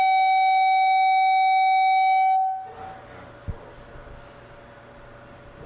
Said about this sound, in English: Is that a siren, Jess? Yeah.